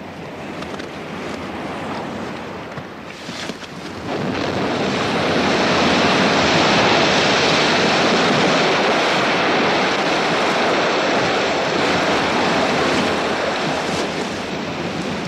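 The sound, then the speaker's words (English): Waves break against a rocky shoreline on the southern edge of Alaska in a steady, full-bodied roar that swells louder after a few seconds and stays loud, with wind rushing across the microphone and no voices. “Shorelines like this on the southern edge of Alaska would have been much less forbidding during the Ice Age.”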